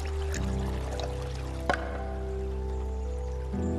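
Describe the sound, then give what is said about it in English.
Water flows and trickles steadily throughout, with a single brief splash or drip standing out about halfway through. There's no talking. “In Japan, with the flow of water, are moments of rituals.”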